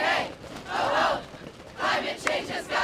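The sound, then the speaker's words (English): A crowd of young climate protesters at the White House chants in loud, rhythmic bursts, shouting phrases such as "What do we want? Climate action!" in unison with brief dips between them, over a steady wash of crowd noise. 16-year-old Greta Thunberg from Sweden is among the crowd. “Among the crowd was 16-year-old Greta Thunberg from Sweden.”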